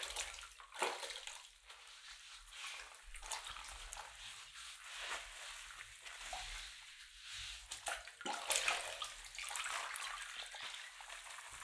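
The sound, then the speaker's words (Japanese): Water sloshes and splashes in soft, irregular bursts as someone washes another person's arms and shoulders together with foamy lather, with wet rubbing and trickling throughout and no voices. “腕と肩は両方一緒に洗っちゃいますね。”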